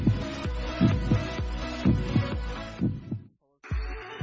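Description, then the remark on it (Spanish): A deep, booming heartbeat sound effect, in an advertisement for an Iberostar Tenerife basketball game at the Santiago Martín arena, thumps in a steady rhythm beneath a dense, humming musical wash, cuts out briefly to near silence, then returns with another loud beat. “Siente el latido del Santiago Martín.”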